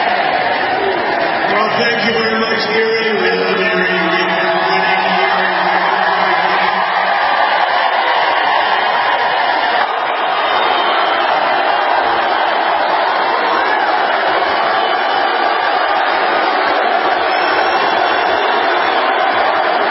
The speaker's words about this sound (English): This was the crowd in Erie, Pennsylvania for Donald Trump yesterday.